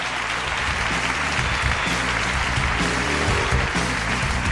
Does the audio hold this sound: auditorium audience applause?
yes